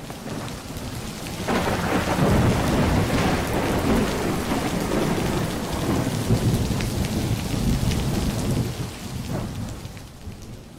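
Steady heavy rain hisses throughout while deep thunder rumbles roll beneath it, swelling loudly around the middle before easing slightly toward the end.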